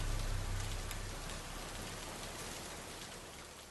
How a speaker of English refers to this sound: Instead, I heard whispers among the sound of the rain. Or I thought I heard them.